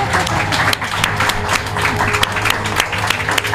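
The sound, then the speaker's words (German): A crowd welcomes director Achim von Borries, one of the makers of Babylon Berlin, with loud, steady applause: a dense wash of many hands clapping at once that continues without a break, with a faint murmur of voices mixed underneath. “Begrüßen mit einem tosen Applaus.”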